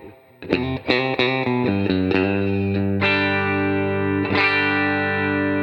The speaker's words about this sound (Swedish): Ja, då kommer den här pumpeffekten. Hör att den... Ja. Går i vågor upp.